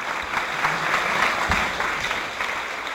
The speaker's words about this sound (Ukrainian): Цього разу повернулася з небес на землю тільки тоді, коли почула дружні оплески.